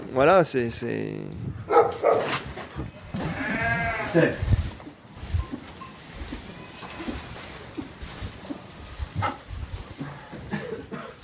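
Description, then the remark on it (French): Dairy ewes, kept indoors at night on a farm with on-site processing and sales, bleat repeatedly and loudly, wavering calls overlapping in the first half, then fainter bleats scattered over a noisy flock background with some indistinct voices. “Alors un avenir optimiste, on va dire, avec les brebis laitières, puisque en créant un atelier de transformation, de vente sur place, avec des brebis qui restent à l'intérieur la nuit,”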